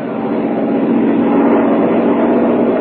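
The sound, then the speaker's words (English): A train rumbles steadily, a dense, continuous low roar with a slight swell in the middle and no voices over it. “Perhaps it is on that very train we are hearing now.”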